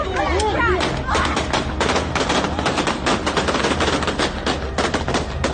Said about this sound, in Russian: На митинге, как я понимаю, страсти накалились, пошли выстрелы в воздух.